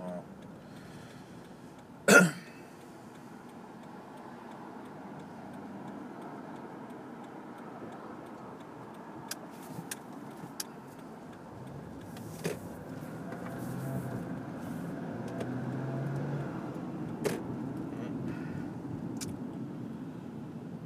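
A low engine rumble swells steadily as a car pulls up outdoors on a hot, muggy day, with a sharp knock near the start and a few faint clicks scattered over the steady hum.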